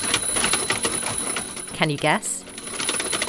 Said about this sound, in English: It's the sound of a mechanised rubber arm slapping a sleeping woman in the face. This is the Wake Up Machine, a DIY wall-mounted robot that works in tandem with the alarm clock to activate the rubber arm, whipping it around